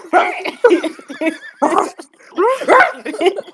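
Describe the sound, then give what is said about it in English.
A person mimics a dog with a run of loud yelping barks and whiny, howl-like bursts, delivered in quick uneven spurts with short gaps between them. “Maybe you start barking at the judge.”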